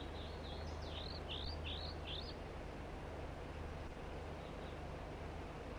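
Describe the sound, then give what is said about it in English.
A short series of quick, high, upslurred chirping notes from two crossbills giving typical flight song, repeated in a loose rhythm for a couple of seconds, then fading, over a steady low rumbling background hum. “And the other two birds are singing as well here, giving the typical flight song.”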